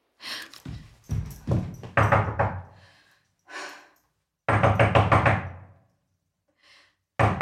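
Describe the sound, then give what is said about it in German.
In a radio play, a mother seeking water for her child knocks loudly on a door. The knocking comes in several rapid bursts of hard raps separated by short pauses, with a few faint bumps in between and no talking. “Bitte, ich weiß, dass Sie da sind. Machen Sie jetzt die Tür auf.”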